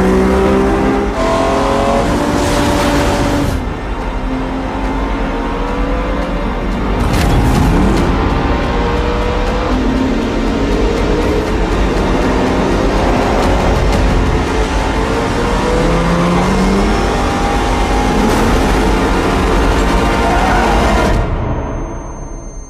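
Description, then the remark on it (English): Loud, continuous car engines roar and rev for over twenty seconds in the trailer for Michael Mann's film Ferrari, pitch sweeping up and down as they accelerate and shift gears, with brief bursts suggesting cars racing past. “Most of it's just car engine noises and one line of dialogue.”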